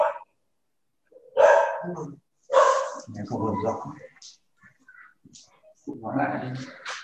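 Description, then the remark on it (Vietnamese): A dog barks in several loud, sharp bursts, separated by short pauses, while people talk intermittently in the background. “Nghe không có rõ, bác có thể nhắc lại giùm, tại như có con chó nó sủa nó nghe không có được.”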